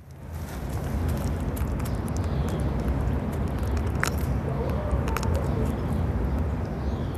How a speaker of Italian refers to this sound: questo è il respiro di un cane con una torsione di stomaco. Questa patologia può uccidere un cane in pochissime ore.